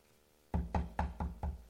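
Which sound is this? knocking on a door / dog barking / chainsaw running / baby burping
knocking on a door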